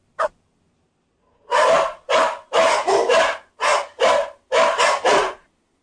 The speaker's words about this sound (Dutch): oh, ich glaube schon, da bellt ja jemand. Okay, wer bellt denn da?